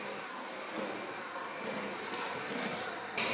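An electric hand mixer fitted with dough hooks runs steadily with a loud, constant whirring motor hum and slight shifts in strain as it kneads dough. No voices.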